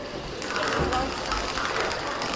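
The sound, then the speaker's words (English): A cable dragged across metal floor grating makes a steady, rasping metallic rattle that runs continuously for a couple of seconds, fairly loud. “It was like a grating on the floor. Yeah. But when you rub the cable over it,”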